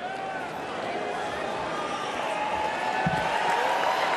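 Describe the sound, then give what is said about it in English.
A large convention crowd roars and cheers for Baby Dog, the bulldog of West Virginia governor Jim Justice, a dense wall of many voices that stays loud and steady throughout, with a slight swell toward the end. “Delegates are hearing from a lot of speakers tonight, but someone who said nothing may have gotten the biggest cheer so far.”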